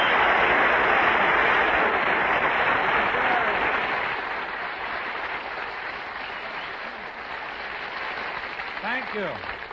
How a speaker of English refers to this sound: It's only my poor heart you hear. And it's applause.